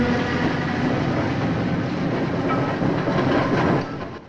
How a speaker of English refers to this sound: A heavy freight train passes slowly.